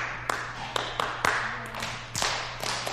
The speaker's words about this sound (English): Oh, sometimes we use a clapping rhythm to catch attention.